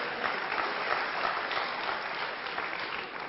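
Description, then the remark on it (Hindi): An audience claps steadily for a few seconds, a dense, even wash of many hands with no pauses and no voices rising above it. “आप तालियां नहीं बजाते, क्या बात है?”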